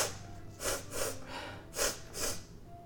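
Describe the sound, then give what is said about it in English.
A person imitates a horse named Maladar sniffing a Nimblewright held up to it, making four sharp, breathy nasal snorts in two quick pairs, fairly loud, with a short pause between the pairs. “It leans over and he sniffs it with his big horsey nostrils.”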